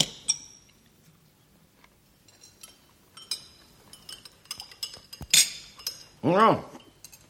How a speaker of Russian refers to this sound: Удалов был голоден, потому не мешкая уселся за стол, взял ложку и начал есть суп.